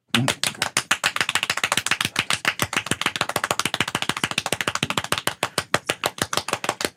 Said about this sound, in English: As soon as it hits, 10, we're gonna count to ourselves for 7. Okay. Okay. We're gonna count our own claps.